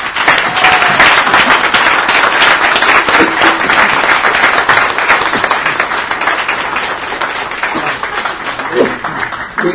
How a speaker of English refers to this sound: Okay, let's have a round of applause for our panel.